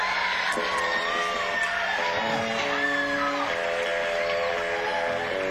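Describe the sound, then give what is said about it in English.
A concert crowd cheers and claps steadily as the band's bass player is introduced, with scattered whoops and high yells rising above a dense wash of applause that holds at an even, loud level throughout. “Once again, on the far right, our bass player, let's hear a round of applause for the fabulous”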